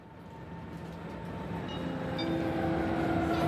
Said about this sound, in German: Gleis 11, Einfahrt EC 47 nach Warschau über Posen in den Abschnitten D bis G, Abfahrt 11.52 Uhr.